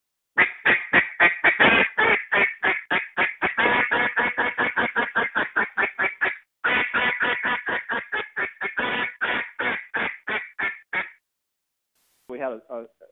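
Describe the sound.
A duck call blows a long, rapid run of sharp, loud quacks in a fast, even rhythm, a step up from soft into louder followed by a hammering triple to turn ducks back, pausing briefly midway before another quick burst, then a short final note.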